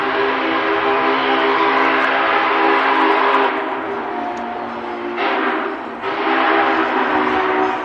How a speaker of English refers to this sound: Steam engine 844 blasts the whistle as it arrives in Nampa Saturday afternoon, exciting a crowd of hundreds who turned up to see the massive locomotive up close.